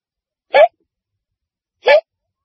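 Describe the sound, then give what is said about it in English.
Two sharp hiccups from a talk show host rehearsing in a TV studio, about a second and a half apart, each a brief voiced gulp standing alone against silence. “Then he got the hiccups.”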